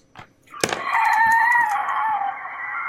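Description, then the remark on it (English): A voice imitates the horrible scream of a ghost taking the shape of a human woman with a lantern in a tabletop role-playing game: a sharp onset, then one loud, sustained, high-pitched wail that wavers slightly and holds for over two seconds before fading a little at the end. “She screams a horrible scream.”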